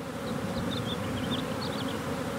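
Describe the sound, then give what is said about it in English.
A dense, steady drone of many bees buzzing around a hive being opened by a beekeeper in the hills east of Fresno, California, a continuous low hum filling the whole moment with faint higher whines drifting in and out. No voices. “not wearing gloves or a bee suit while he's opening a hive.”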